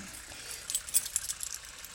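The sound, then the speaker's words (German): Keys jangle briefly as a key is handed over, a key that fits a toy made by the firm Kopperschmidt: a cluster of light metallic clinks over about a second, then a few faint rattles before quieting, with no one speaking. “Um genau zu sein, ein Spielzeug, zu dem dieser Schlüssel hier passt.”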